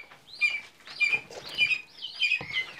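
Young falcon chicks at a falconry in Potsdam, Germany, call in a series of about five shrill, wavering cries, repeated at a steady rhythm, with no one talking.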